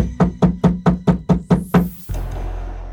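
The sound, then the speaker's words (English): Eight heavy, evenly spaced knocks pound on the wooden door of a small home, loud, then stop abruptly and give way to a low steady rumble of background noise. “Runa stepped towards her threateningly, but she was stopped by a heavy knocking at the door.”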